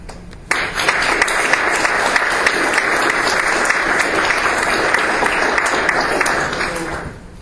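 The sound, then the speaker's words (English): Sustained applause from an audience after a speaker's talk begins abruptly and holds steady for several seconds of dense clapping before tapering off at the end. “So another round of applause, and we should proceed directly to the next speaker.”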